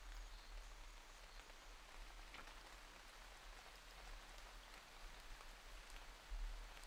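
rain sounds

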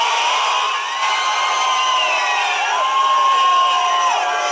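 cheering crowd

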